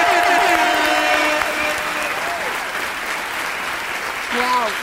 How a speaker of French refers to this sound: Un triomphe. Un triomphe. Une standing ovation. Mesdames et messieurs, une femme fontaine d'applaudissements pour Audrey Pirot et Jérôme Niel.